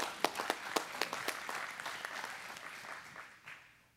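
A crowd applauds with many overlapping hand claps, sharp individual claps standing out early over a dense patter that gradually thins and fades out by the end.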